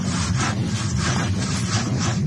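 A steady, rough scraping sound from a train, with repeated rasping strokes over a heavy low rumble, continuous and fairly loud throughout, with no voices.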